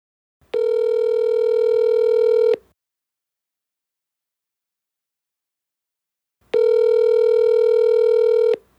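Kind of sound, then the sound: signal or alarm, telephone dialing tones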